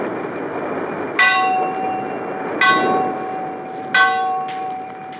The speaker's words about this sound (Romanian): O ceață groasă se pogorâse deasupra mării, încât nu mai vedeai nici la 10 pași înainte. Sunetul clopotului mare de pe catarg răzbătea din când în când prin valurile de ceață.